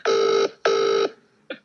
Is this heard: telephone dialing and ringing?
yes